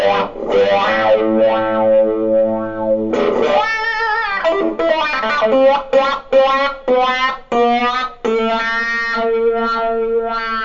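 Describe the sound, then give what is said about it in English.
An electric guitar played through an effects pedal with no overdrive added, its tone sweeping widely from dark to bright across sustained notes and short phrases, loud with no talking. “Really big sweep. That's one of the things that really got me. It's a really wide tonal sweep.”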